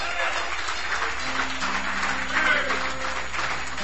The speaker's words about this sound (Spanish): Dale el aplauso a tu Dios.